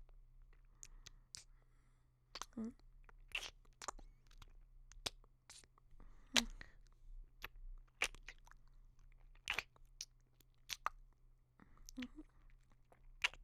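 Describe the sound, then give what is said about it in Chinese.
Crisp crinkling and tearing of a wrapped package tied with a bow, coming in irregular bursts of rustles and crunches over about thirteen seconds, with a low steady hum underneath and no talking. “不是，他不是这样撕的。”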